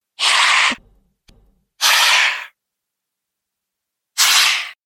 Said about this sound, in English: Another adult hissing.